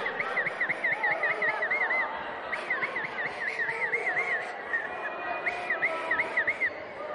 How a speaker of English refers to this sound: You lot are running around like loonies blowing your whistles. Right, 3, 2, 1, go! Oh! Rubbish whistles!